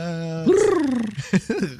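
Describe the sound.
A voice imitates a bird call with a gurgling, gargled sound that resembles a quail: a steady low hum jumps up in pitch, slides down, then breaks into a few short throaty bursts.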